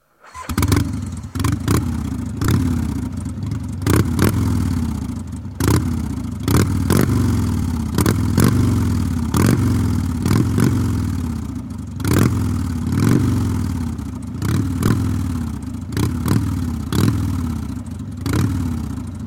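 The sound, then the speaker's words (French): A Harley-Davidson motorcycle engine chugs with a deep, vibrating, uneven idle, punctuated by repeated sharp revs and mechanical clatter bursts throughout, with no voices. “Et c'est vrai que ces à-coups, ce bourdon régulier et vibrant d'une moto, et en particulier d'une Harley, c'est tout simplement beau.”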